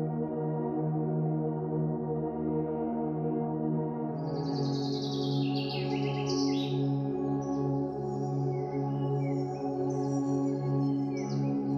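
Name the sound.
birds chirping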